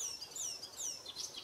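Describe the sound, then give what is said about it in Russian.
A bird sings a quick run of high, whistled chirps and descending trills, fairly quiet, with no one speaking over it. “Это все, он поет.”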